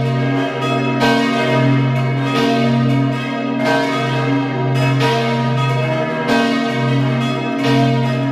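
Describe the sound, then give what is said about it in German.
Several church bells of the Church of St. Sebastian in Hart, Vorarlberg, ring together at 12 noon in a loud, sustained peal, their overlapping strikes recurring about once a second over a rich, humming drone of resonance, with no voices present. “Sie hören die Glocken der Kirche zum heiligen Sebastian in Hart in Vorarlberg.”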